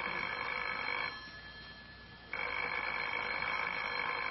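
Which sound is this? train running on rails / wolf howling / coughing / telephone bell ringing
telephone bell ringing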